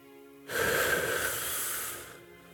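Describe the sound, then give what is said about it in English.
A single deep breath drawn in through the nose or mouth during a guided breathing exercise, an airy, hissy inhale lasting about a second and a half, fairly loud and heard on its own over a faint steady hum. “Breathe in.”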